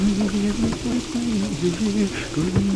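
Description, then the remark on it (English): Heavy rain pours down in a steady, dense hiss that never lets up, with a low voice sounding faintly underneath the downpour. “Oh no, the rain's getting worse.”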